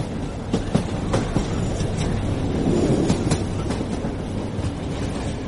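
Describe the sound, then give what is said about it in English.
A passenger train rolls along with a steady, loud low rumble, broken by irregular sharp clicks and clacks from the wheels over the rails. No one speaks. “In the interest of efficiency and punctuality, I should also inform you the train is now running approximately 11 minutes late.”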